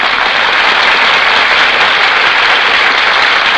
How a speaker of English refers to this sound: That applause, ladies and gentlemen, is for our stars, who have just walked from the wings onto the stage.